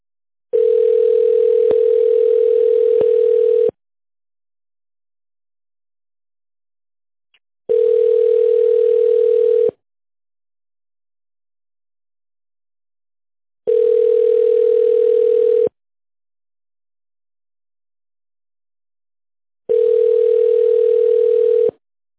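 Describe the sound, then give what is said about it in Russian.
A steady telephone line tone, the signal after a company's automated voice menu for dialing an employee's extension number, sounds in four long beeps, each about two to three seconds, separated by roughly four-second silences. Clear, with no voices present. “Если вы знаете внутренний номер нужного вам сотрудника, наберите его на вашем телефоне после сигнала.”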